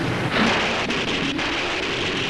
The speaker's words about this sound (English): And then lightning starts to strike for no reason, and there's a storm somewhere else.